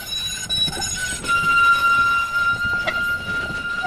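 A tram in Ljubljana rolls steadily along its rails with a continuous rumble and a thin, sustained metallic squeal from the wheels, loud throughout, with no voices present.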